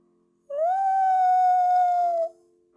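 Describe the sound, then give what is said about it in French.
A single long wolf howl rises quickly, then holds a steady, mournful pitch for almost two seconds before cutting off. It is loud, with no voices. “Le loup ! C'est sûrement le loup !”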